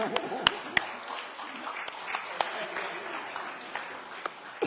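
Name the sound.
audience applause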